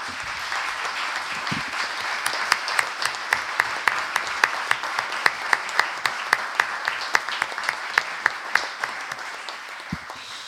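Sustained audience applause for a member of the previous town administration, a dense wash of many hands clapping, which after a couple of seconds settles into a steady rhythmic beat of synchronized claps running to the end.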